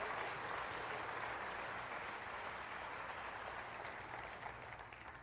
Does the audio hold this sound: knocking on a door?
no